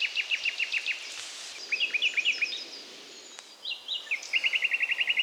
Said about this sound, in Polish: I słyszą, że są Państwo, jakiś świergot za mną się rozlega. Na pierwszym planie wybija się słowik.